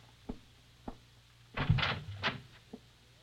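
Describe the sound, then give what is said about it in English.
A closet door in a house opens: two small latch clicks, then a brief rustling, creaking swing lasting under a second, and one last soft click, all over a faint low hum. “Open this door.”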